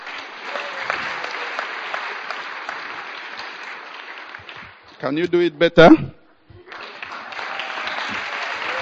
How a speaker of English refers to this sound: Can you give a clap offering to Jesus?